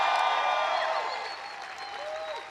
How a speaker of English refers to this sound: And all of you working so hard for the past 7 months to get Bernie elected. So give yourself a round of applause for all the work that you've done.